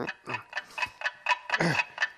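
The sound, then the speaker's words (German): An alarm clock lying under a bed ticks steadily on its own, a quick, even series of sharp, bright clicks about four per second with no voices over it. “Das ist ja unser Wecker. Der macht das Geräusch.”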